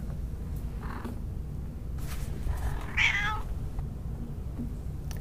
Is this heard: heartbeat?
no